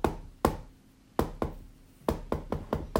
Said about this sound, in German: Okay, also der sieht jetzt da diesen fremden Mann, der das geheime Zeichen klopft.